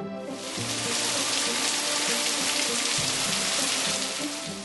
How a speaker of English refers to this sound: Yeah, the rain came really fast.